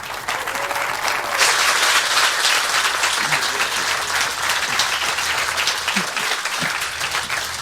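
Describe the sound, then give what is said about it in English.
An audience applauds speakers being introduced for a talk on disclosure, a dense, loud wash of many hands that swells after the first second and holds for several seconds with no voices clearly rising above it. “Please give a big applause to our speakers.”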